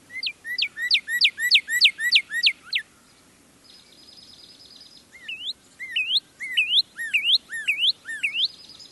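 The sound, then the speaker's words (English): A northern cardinal sings clear whistled syllables: a fast run of about ten repeated downslurred notes, a brief pause with a faint buzzy trill, then a second series of rising, upswept whistles. “The song of a cardinal is actually fairly simple. It's a series of whistled syllables.”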